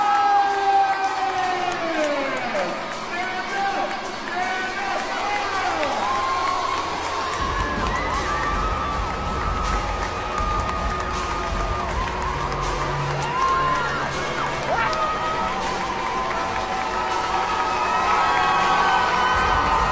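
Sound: crowd screaming and cheering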